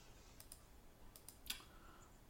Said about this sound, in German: Mann, ich klicke hier zu viel rum.